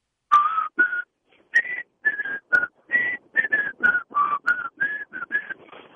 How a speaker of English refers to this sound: If you're going to do the Andy of Mayberry, you have to really know how to whistle